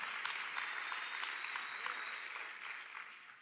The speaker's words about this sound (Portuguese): Dá um glória a Deus aí, igreja. Aplauda o nome de Jesus.